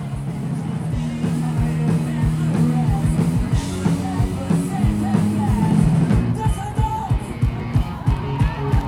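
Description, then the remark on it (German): A loud, excited concert crowd, a huge audience filling the whole area in front of and beside the stage, yells and cheers continuously, with whoops rising above a dense roar, while low sustained music tones and rhythmic thumps run underneath throughout. “alle sind ausgerastet. Die Leute hatten super viel Energie und diese positive Stimmung hat dann nach und nach echt alle angesteckt.”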